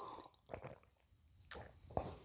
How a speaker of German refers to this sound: Ich muss mal einen Schluck trinken.